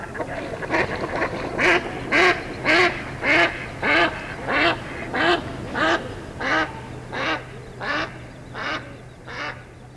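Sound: duck quacking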